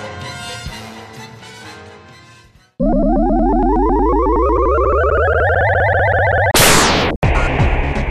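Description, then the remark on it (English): A cartoonish explosion sound effect from a fight scene against a big robot: a steadily rising electronic whine builds for several seconds, then bursts into a loud blast that cuts off and gives way to noisy crackling, after a stretch of tonal, music-like sound. “I guess we couldn't have at least one NTD QMTH without a ridiculous fight scene that uses the same explosion sound effects again and again.”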